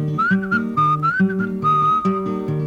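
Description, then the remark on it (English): A person whistles a bird call: short, bright phrases that rise and slide, repeated about four times in a steady rhythm over a plucked, low instrumental accompaniment. “Well, I had me a rooster, the rooster pleased me, and I fed that rooster under yonder tree, and the rooster went roo, roo, roo, and the duck went quack, quack, the dog went roop, roop, the cat went meow, and the bird went.”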